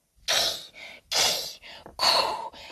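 Three loud, breathy hisses in a row, each harsh and abrupt with short pauses between, a goose hissing to give a fright, probably a human voice imitating it.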